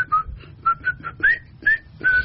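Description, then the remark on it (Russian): A person whistles a bouncy march-like foxtrot tune, a series of clear, bright notes in a steady rhythm, some sliding upward, with no talking. “И вот так свистел.”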